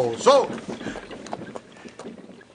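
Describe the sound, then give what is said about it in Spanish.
Horses' hooves clip-clop in an uneven, slowing rhythm as the horses are brought to a halt, over a low rumbling, windy background, with a brief high vocal-like cry near the start. “Capitán, detenga los caballos.”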